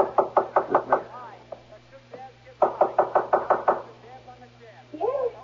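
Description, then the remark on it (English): Two quick bursts of firm knocking on a wooden bedroom door, about five or six raps each, separated by a short pause, with faint voices murmuring in between and afterward. “This is Mother's door here.”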